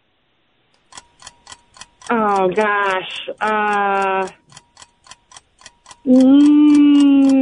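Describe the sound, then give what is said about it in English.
A game show timer ticks steadily during a trivia round on Star 102 radio, about two or three sharp clicks per second, running throughout while people talk over it in a few bursts. “There's a timer for that one.”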